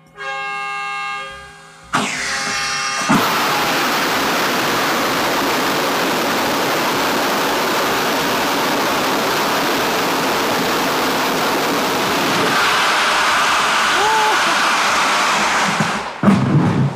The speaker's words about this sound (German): denn ich darf heute bei einem Raketentriebwerkstest dabei sein